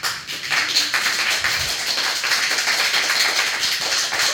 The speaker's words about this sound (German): Es gibt eine riesige Menge, die macht jetzt Applaus.